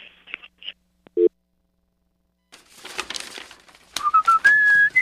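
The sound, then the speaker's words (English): A phone line being dropped as a call is hung up: a few quick electronic beeps and a short steady line tone, followed by rustling handling noise and rising warbly tones at the end. “I'm hanging up this phone.”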